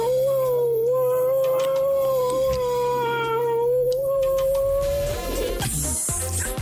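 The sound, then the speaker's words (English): A radio listener imitates a tabby cat wanting more milk with one long, drawn-out, wavering meow, loud, held for about five seconds before trailing off into brief rustling noises. “Listeners meowed like a cat for Kitty Flanagan.”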